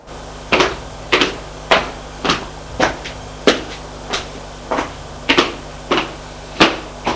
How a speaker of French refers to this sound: Frappe à la porte. Entrez. Elle entre.